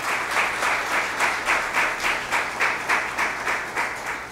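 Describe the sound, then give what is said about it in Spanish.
An audience at a contest award ceremony applauds a prize-winning primitivist painter from Masaya as he stands, steady for several seconds, a dense, even wash of clapping with a faint rhythmic pulse, moderately loud and with no voices over it. “Le voy a pedir que se ponga de pie, por favor, para que le demos su merecido aplauso.”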